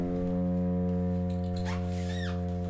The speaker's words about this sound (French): Qu'est-ce que c'est ? C'est le bateau mouche qui passe.